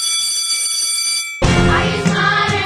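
A bell is rung to start an "extra credit" segment: steady, bright sustained tones for over a second, then a sudden loud, dense burst of noisy sound takes over as the ringing continues underneath.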